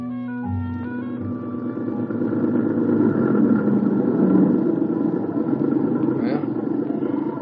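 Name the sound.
jeep engine idling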